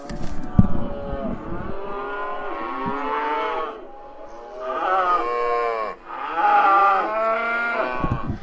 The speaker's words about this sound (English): Yes, those are cows in the background. I think what I'm going to do is just leave that to run sort of quietly in the background while we finish the podcast. It's kind of a pleasant sound. I grew up on a farm and I love hearing mooing cows.